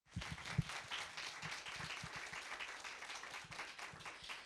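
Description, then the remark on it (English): An audience at an evening event breaks into sustained applause for a guest speaker, many hands clapping in a dense, steady wash with a few sharper individual claps standing out at the start. “Give me a round of applause, please.”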